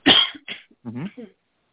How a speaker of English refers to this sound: And, excuse me, got a cough.